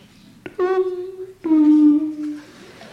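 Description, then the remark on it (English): A doorbell rings with a two-note ding-dong chime, each tone starting with a sharp click and ringing out for nearly a second, the second note slightly lower, heard clearly with no talking. “One night, the doorbell rang.”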